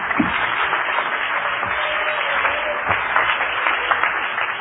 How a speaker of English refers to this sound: I wish somebody would clap your hands to the Lord and worship Him right now.